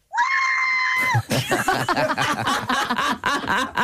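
A woman lets out a long, loud, high-pitched scream of excitement, then it breaks into a rapid burst of overlapping shrieks and excited voices that carries on to the end.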